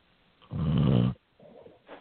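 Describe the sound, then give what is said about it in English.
A single loud, rasping snore lasting about half a second, followed by a couple of softer, rougher breaths, heard over a narrow, phone-like line with no talking. “He snored.”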